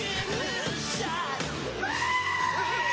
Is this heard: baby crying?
no